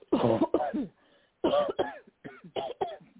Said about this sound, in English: I want you to take a deep breath and cough.